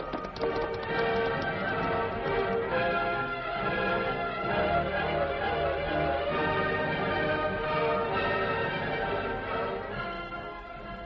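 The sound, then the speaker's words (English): Horse hooves clip-clop in a steady rhythm as riders on the horses Silver and Scout move off toward the mountains, the hoofbeats running under a loud, sustained musical backdrop throughout. “Tonto, we'll head toward the mountains this time.”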